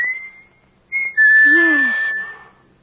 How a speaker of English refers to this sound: When he used to roll to the bottom of the hill and wait for you, and you could stand in the orchard until you heard him whistle.